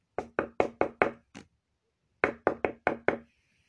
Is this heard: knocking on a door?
yes